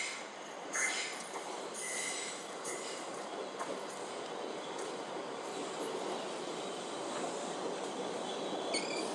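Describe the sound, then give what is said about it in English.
The 08:45 South Western train service to London Waterloo rolls into platform 2 at Richmond station with a steady rumble, broken by several sharp metallic squeals of brakes and wheels, the noise staying loud and even throughout. “The train now approaching platform 2 is the 08:45 Southwest train service to London Waterloo.”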